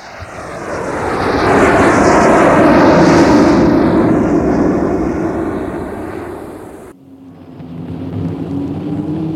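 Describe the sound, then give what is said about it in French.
A private airplane flying to Satelors: a loud, steady engine drone swells and fades, then cuts abruptly to a lower, muffled hum. No one speaks. “Là, ils ont pris un avion privé jusqu'à Satelors.”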